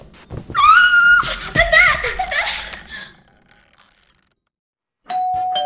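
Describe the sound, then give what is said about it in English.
Excited shrieks and chaotic voices fill the first few seconds, then fall silent. After a pause, a loud, steady doorbell tone rings out clearly at the very end as a guest arrives in the evening. “The doorbell rings for one last unexpected guest of the evening.”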